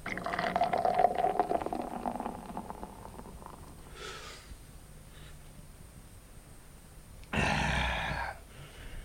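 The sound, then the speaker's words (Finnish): A fizzy, sparkling drink is poured, with a bubbly, crackling hiss at the start that fades. After a quiet stretch, a second louder burst of fizzing splash follows briefly. “Oi Saksanmaa, mikä etkö olissa ilman tätä kuohuvata juomaa.”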